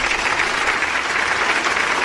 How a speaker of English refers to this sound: Yes, I'm going to give myself a pat on the back for that and a round of applause for that.